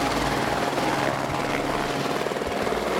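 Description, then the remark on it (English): A helicopter that flew pipeline workers in to do survey work roars steadily, its rotor producing a rapid, low, rhythmic thumping beneath a loud, constant engine whine throughout. “And here she is again, kicking out pipeline workers who illegally choppered in to do survey work.”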